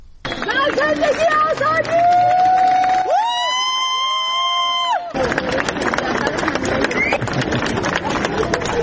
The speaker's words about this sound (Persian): بر اساس ویدیوهای منتشر شده در شبکه‌های اجتماعی، جعفر پناهی 2 روز پس از دریافت جایزه نخل طلای جشنواره فیلم کن، بامداد امروز وارد فرودگاه تهران شد و مورد تشویق مردم حاضر در آنجا قرار گرفت.